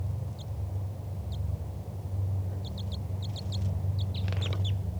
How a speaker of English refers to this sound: That was a wild bird giving flight calls. Chitter by the wild bird. Bird was chittering and went down to the cage of bird 411, who's underneath the lodgepole pine here.